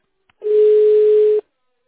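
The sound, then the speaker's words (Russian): A single steady telephone busy-signal tone, one loud mid-pitched beep lasting about a second, with silence before and after and no voices. “The subscriber you have dialed is busy now.”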